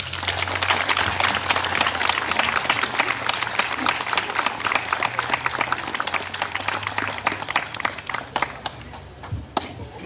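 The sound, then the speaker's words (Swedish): Sustained applause from an audience, a dense patter of many hands clapping steadily for several seconds before thinning slightly toward the end. “En varm applåd.”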